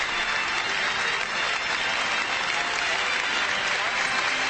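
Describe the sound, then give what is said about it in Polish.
Sustained, dense applause from a large crowd inside a church as the Pope arrives, a steady wash of many hands clapping at an even loudness throughout, with no clear individual claps standing out. “No i oczywiście wewnątrz rozlegało się oklaski.”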